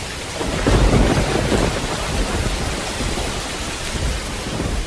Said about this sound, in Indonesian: Dalam keadaan seperti itu, terjadilah angin topan dan hujan deras.